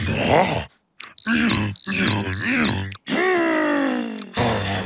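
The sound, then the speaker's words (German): A voice imitates a bear with a series of deep, gruff grunts and groaning growls, loud, in several bursts separated by short pauses. “Was, Bär? Du willst den Flamingo einmal kräftig schnappen und schütteln und schrauben und schwupps ist er wieder gerade?”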